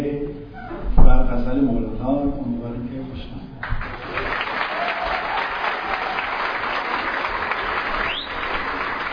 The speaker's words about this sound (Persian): در پایان برنامه هم که مردم با تشویق‌ها و ابراز احساساتشون خواستار اجرای قطعه اضافه‌ای بودن، … اثری از … رو خوند.